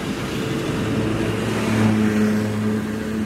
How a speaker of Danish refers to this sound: Hvad synes du om trængslen i trafikken her på Jagtvej? Den altid er tæt lige her.